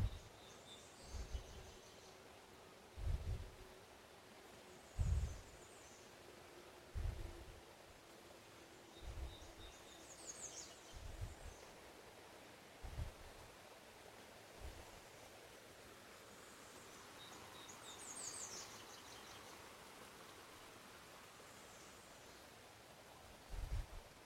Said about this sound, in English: That'd be the Mississippi River. This is usually my favorite spot right in here. But with the water so high, it's glancing over the rocks.